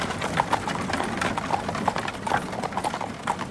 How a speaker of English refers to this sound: It was an enormous closed carriage. Four horses pulled it up the hill. They were very tired.